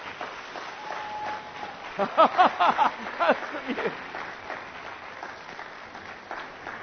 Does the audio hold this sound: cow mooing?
no